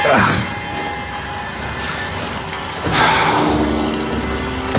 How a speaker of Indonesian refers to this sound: Sampai aku terbangun ketika mendengar suara air menyala di kamar mandi. Siapa sih malam-malam gini?